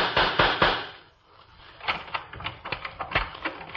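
Knocking on a door at night: a few heavy thuds, a short pause, then a quicker run of sharper, lighter raps, all fairly loud with no one speaking.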